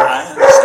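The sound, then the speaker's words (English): A female dog, protective of a baby, growls briefly at a visitor, a short tense rumble rising into a tonal, whiny edge, lasting under a second with no talking over it. “The dog is very attached to the people and extremely attached to the baby, to the extent that if the nanny comes, she growls at the nanny. So she also growled at me”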